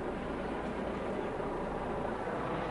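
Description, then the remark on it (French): A helicopter hovers overhead, its steady, heavy rumble and rotor roar filling the scene at a constant loudness, with no voices present. “un hélico qui fait du surplace.”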